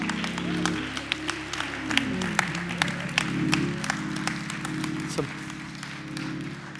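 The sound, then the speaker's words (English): An audience claps steadily throughout, a dense run of sharp, irregular hand claps over a low, sustained hum and faint crowd murmur, with no clear speech. “Why are you all clapping?”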